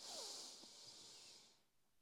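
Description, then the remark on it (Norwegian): A single deep, airy inhale through the nose, drawn steadily for about a second and a half before trailing off into quiet, taken as part of a relaxation breathing exercise. No talking. “Ok, da starter vi først med å puste godt inn gjennom nesa.”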